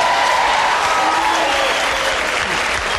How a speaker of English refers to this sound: There's the bit where she goes, who likes cats more than dogs? Yeah. How many people like cats better than dogs? By a round of applause.